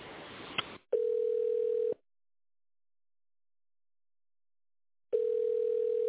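A telephone ringback tone while calling the company Stepinform: a steady mid-pitched beep lasting about a second, a long silent gap of several seconds, then the beep starts again, after a brief burst of line hiss.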